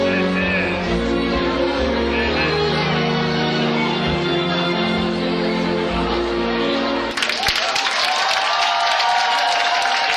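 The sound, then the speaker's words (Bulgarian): A sung performance with musical accompaniment ends, and a large audience at a music awards ceremony immediately erupts into loud, sustained applause and cheering that fills the final few seconds. “Да получиш награда за цялостен принос и да чуеш как публиката на едни такива награди се радва най-много на теб след твоето изпълнение.”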